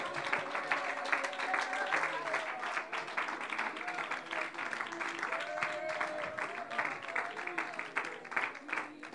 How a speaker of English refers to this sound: Clap your hands to the Lord and magnify Him.